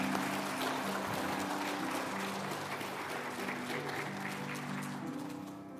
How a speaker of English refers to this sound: All right, well, let's give them all a round of applause.